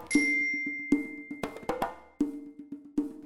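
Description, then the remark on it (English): A bell rings out several times in an irregular pattern, each clear strike leaving a sustained metallic tone that lingers and overlaps the next. No voices are heard. “Repeat after the bell.”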